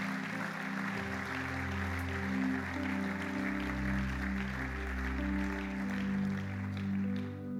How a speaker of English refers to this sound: Give the Lord a great clap offering, would you?